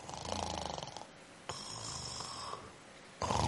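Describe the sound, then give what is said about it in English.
A voice imitates a woman snoring after she had fallen asleep, in three rough, rasping bursts, the first pulsing quickly, the others broader and steadier, with no other talk. “She was snoring and she'd fallen asleep.”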